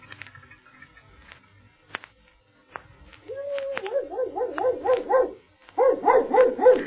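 dog barking

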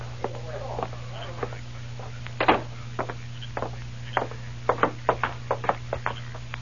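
knocking on a door

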